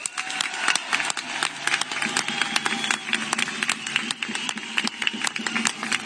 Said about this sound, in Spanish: Por cierto, aprovecho para pedir un aplauso para la sanidad pública.